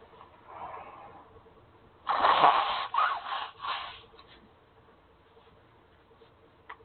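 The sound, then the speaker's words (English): Someone blows their nose: a loud, breathy honk followed by a couple of shorter snorting bursts, with faint background hum before and after. “Blow my nose a bit.”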